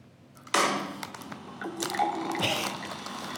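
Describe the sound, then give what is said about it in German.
An artificial-sounding beer pour from the app Beer with me starts abruptly with a loud splash, then a steady frothy gush of liquid with bubbly fizz that swells again near the end. No one speaks. “Und hier haben wir noch ein sehr künstliches Einschenkgeräusch von...”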